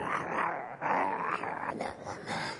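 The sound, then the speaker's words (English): A person makes a low, rasping growl, imitating a growling rattlesnake. The throaty sound runs almost without a break for nearly three seconds, with a brief dip partway through. “Have you ever heard a rattlesnake growl? It's like a dog. Man, they go...”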